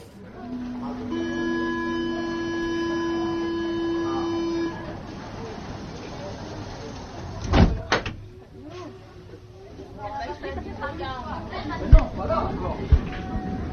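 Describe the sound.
A metro train arrives with a steady, multi-toned whine for several seconds, then its doors slide and close with two sharp thuds, followed by murmuring voices and a few clicks.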